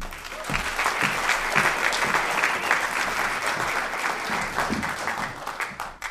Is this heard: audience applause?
yes